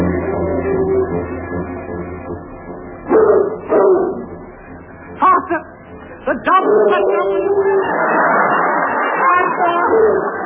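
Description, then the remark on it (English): Bloodhounds bark in several sharp, excited bursts over a dense, noisy commotion as they chase people across Dartmoor who are taken for escaping convicts, the baying loud as the chase surges, then giving way to a rough, rushing wash of sound. “Just as we got out of the tunnel under the stage, they set the dogs on us.”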